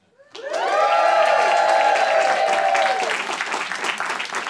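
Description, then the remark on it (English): A crowd bursts into loud applause and cheering, with a sustained high whoop over the first few seconds, then steady clapping continuing to the end, as the first game of a live show, Live, Die, Repeat, is announced. “Crowd always goes crazy for it.”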